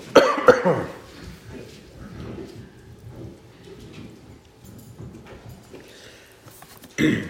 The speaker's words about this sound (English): Excuse me. That's the wrong place to cough. Sorry.